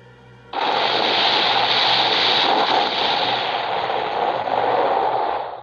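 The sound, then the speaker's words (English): A sudden, loud burst of movie-style battle noise: explosions and rapid gunfire-like blasts merge into a dense, continuous roar that holds for about five seconds. No one speaks. “I was getting at them fucking explosions.”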